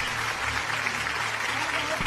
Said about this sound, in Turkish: Seni yani alkışlıyorlar şu anda.